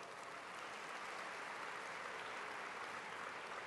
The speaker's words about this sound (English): First and foremost, I would like to thank all of the organizers of this incredible conference, our brothers and sisters from Mass and ICNA. If we could just give them a round of applause.